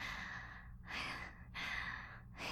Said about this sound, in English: Your breathing's just as fast as mine.